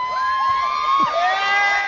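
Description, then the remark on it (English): At a baseball game, a spectator shouts an excited "hey!" right after Tim Tebow hits a home run off his first pitch faced in professional baseball, in the Instructional League, over a crowd that whoops and hollers together, voices rising and sliding in pitch, holding steady and fairly loud for a couple of seconds. “I like the cheer by whoever it is there right after he...”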